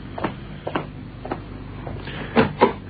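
A door being opened, heard as a series of dull clicks and knocks from the latch and handle, ending in two louder thumps. No one speaks.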